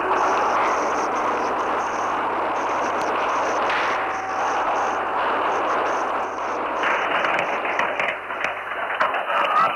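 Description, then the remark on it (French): Gunfire and weapons noise in a deserted street of wartime Jerusalem at about 3 p.m.: a dense, continuous roar with scattered sharp cracks and a steady hiss, loud throughout, with no one speaking. “En début d'après-midi, Jérusalem avait son visage de guerre, rue déserte et fracas des armes.”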